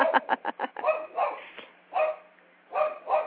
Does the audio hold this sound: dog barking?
yes